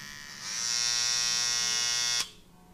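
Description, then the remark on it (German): A steady electric razor buzz switches on, hums evenly with a bright, dense harmonic whine for under two seconds, then cuts off abruptly into quiet. No one speaks. “Aber ich würde sagen, wir warten noch kurz den Rasierer ab und machen kurz Cut.”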